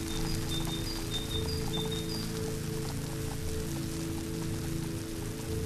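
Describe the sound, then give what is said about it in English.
Steady, unbroken hiss of rain-weather background noise, the kind that makes it difficult to hear the person one is communicating with, fills the whole stretch at an even level, with a low hum beneath and a few faint high chirps in the first couple of seconds. “That's the noise you get with the weather. It's just a sort of shh, like so, and it's difficult to hear.”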